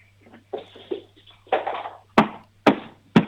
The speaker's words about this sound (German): Jetzt gehst du mal zur Tür und klopfst mal so dagegen, dass wir es hören.